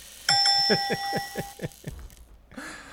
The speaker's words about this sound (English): I don't even know why he has a buzzer. I don't even understand that.